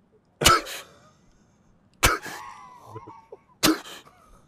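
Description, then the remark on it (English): A voice imitates a pilot's straining breathing maneuver, called a Hick maneuver, done in air-to-air combat training. There are three forceful, explosive grunted exhales at even intervals, each trailing off into a tight, strained hiss, with no other talking. “I mean, you're doing, you're breathing, you're doing this thing called a Hick maneuver, and you're literally, it literally feels like this, where you're just like...”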